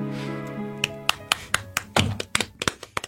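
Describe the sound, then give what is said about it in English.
A soft golf clap for a performance: a dozen or so light, sparse claps at an uneven pace, fairly quiet, following a fading sustained tone at the start. “Nice golf clap for that performance.”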